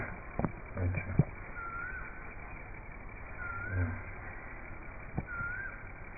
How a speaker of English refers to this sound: Quail, cuckoo is also singing. Is that a cuckoo? Yes. That's cuckoo.